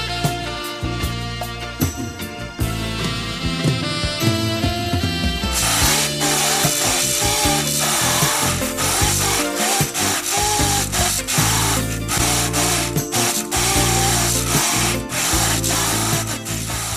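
A chainsaw runs loud without pause, its engine droning steadily before turning rougher and grittier as it seems to bite into wood. No voices.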